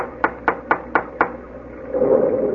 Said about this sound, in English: Well, no, we've come this far. Go ahead and knock at the door.